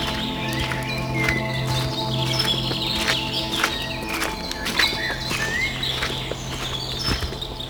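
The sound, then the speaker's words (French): Scattered bird chirps and short calls ring out throughout a mixed forest, the forest of Carnoë, over a steady low background rumble with occasional soft thuds. “Des oiseaux partout.”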